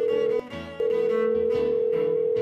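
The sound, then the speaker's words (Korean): A steady telephone tone hums continuously, briefly cut off near the start before resuming, as a call is placed to Heart and Seoul Gospel Broadcasting to report a new home address, while a soft background bed of shifting low notes plays underneath. “지금 당장 전화해서 알려드려야겠어요.”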